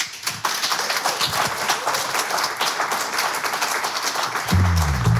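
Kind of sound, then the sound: crowd, studio audience applause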